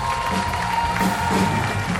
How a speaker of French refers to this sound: et on va l'applaudir très fort,